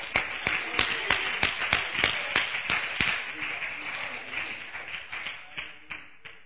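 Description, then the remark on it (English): An audience applauds in a dense wash of clapping, with sharp, steady rhythmic claps standing out over the crowd noise before gradually thinning and fading toward the end. “Give the Lord a round of applause, saints.”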